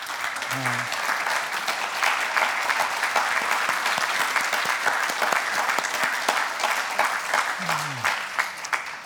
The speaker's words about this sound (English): So all mothers, expecting moms, grandmothers, and possibly great-grandmothers, will you please rise? And for those of you online, you can rise as well. Stand up. And let's give these wonderful ladies a round of applause.